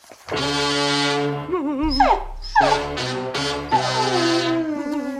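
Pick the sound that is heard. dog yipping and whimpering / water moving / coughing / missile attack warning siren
dog yipping and whimpering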